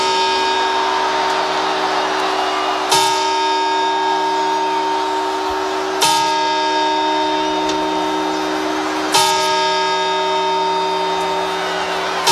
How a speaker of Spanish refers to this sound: Pues sí, son las campanadas de la Puerta del Sol que nos introducen siempre en el nuevo año, 12 en total, y entre campana y campanada, tres segundos exactos, ni uno más ni uno menos.